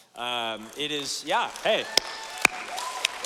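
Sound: audience applauding and cheering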